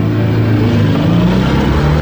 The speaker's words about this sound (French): je t'ai dit de pas démarrer ta voiture en classe. Va porter cette voiture-là chez le directeur.